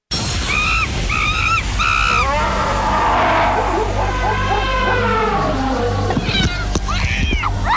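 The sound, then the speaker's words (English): A loud intro jingle for the Animal Thunderdome segment, built from wild animal cries, with repeated meow-like calls and swooping yowls riding over a steady low drone, running continuously for several seconds. “We haven't done an Animal Thunderdome in a while. Cue the music, Danny G.”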